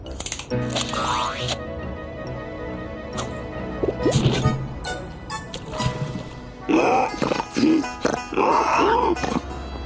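Pigs grunt in a string of loud, irregular bursts over a busy background of clatter and rustling, with the grunting growing denser toward the end.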